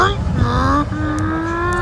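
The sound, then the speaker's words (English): A person vocally imitates a revving race car engine, a loud, steady rising drone with a brief break midway, with no actual words. “I feel like mine literally starts like race cars.”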